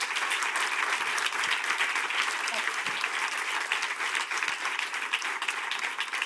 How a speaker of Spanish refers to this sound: Otro aplauso para ti, que te llevas extensivo para la MANE, y mucha suerte en vuestro proceso.